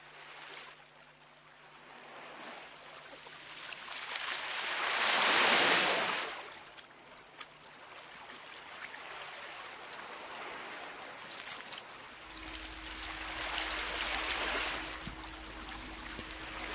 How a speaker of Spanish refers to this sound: El mar.